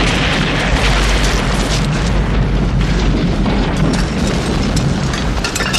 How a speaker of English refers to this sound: Ryan was tossed sideways by the force of the explosion. A wooden blur flew towards his head. Ryan opened his eye again, finding that he could see bright flames and a curtain of billowing black smoke that boiled from the shattered ruins of the tower.